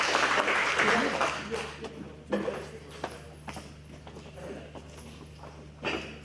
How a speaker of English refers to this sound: I'll round of applause for this gentleman, please. Thank you.